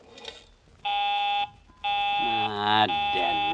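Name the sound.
telephone busy signal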